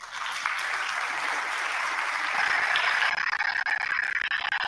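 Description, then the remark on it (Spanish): Steady applause from an audience in Zacatecas welcoming a speaker fills the whole stretch, a dense wash of many hands clapping at once that swells slightly louder midway and carries on without voices. “Te mandamos un abrazo fuerte y un aplauso caluroso desde Zacatecas.”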